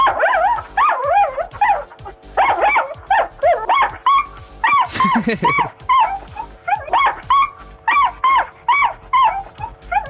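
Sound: dog barking and whimpering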